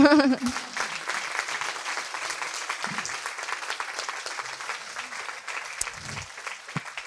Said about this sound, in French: Merci beaucoup. Merci. Peut-être qu'on peut vous applaudir.